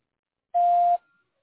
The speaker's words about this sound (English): Please record your message after the beep. When finished, press the pound key.